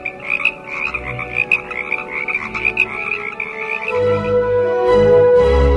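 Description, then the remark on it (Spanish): A dense chorus of frogs in a pond croaks together on a summer night in overlapping, pulsing calls, steady and fairly loud, with low rumbling tones swelling beneath toward the end. “En las noches de verano, las ranas cantan todas juntas la misma vieja canción.”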